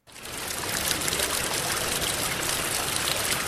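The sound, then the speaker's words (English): Steady trickling water runs continuously through paddy fields in Puncak, south of Jakarta, Indonesia, a bright, dense babble of flowing water, with no voices and an even level throughout. “Water trickles through the picturesque paddy fields of Puncak south of Jakarta”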